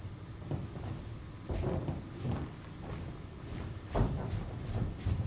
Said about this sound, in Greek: Την στιγμή, κάποιος χτυπά την πόρτα.